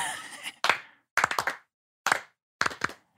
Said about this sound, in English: Let's try and do a little clapping.